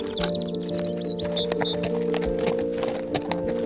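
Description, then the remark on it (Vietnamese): Horse hooves clip-clop in a loose, uneven rhythm over a steady droning hum of background tones, with a brief high chirping trill at the start. “Khái niệm đường Ley được nhà khảo cổ học Alfred Watkins phát hiện ra vào một buổi chiều năm 1921 khi ông đang cưỡi ngựa trên những ngọn đồi xung quanh một ngôi làng nhỏ ở Anh để quan sát địa hình.”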